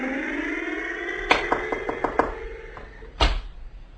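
A faulty car engine, its owner rushing it to a mechanic, chugs with a steady droning hum, broken by a quick run of irregular knocking clunks and then one louder thump toward the end.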